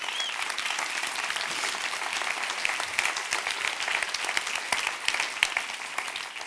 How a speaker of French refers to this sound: On peut l'applaudir. Allez, un maximum de bruit!